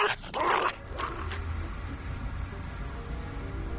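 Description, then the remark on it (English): A dog named Dublin gives a quick burst of high, excited yips and short barks near the start, with a couple more brief yelps after, then only a low background rumble remains. “Actually, I've taught my dog Dublin lots of tricks.”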